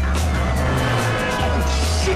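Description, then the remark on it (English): A fleet of white police squad cars with red and blue roof lights races up interstate I-95, sirens wailing over a loud, steady roar of engines and road noise, the siren tones rising and falling faintly above the rumble throughout. “A fleet of white squad cars, their red and blue roof lights flashing, race up the interstate behind Brian and Pierce.”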